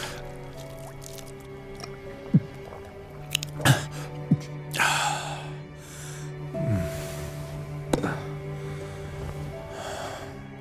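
Water is poured in a short splashing burst, with scattered drips and small wet clicks around it, then soft gulping and breathy swallowing sounds. Nobody speaks.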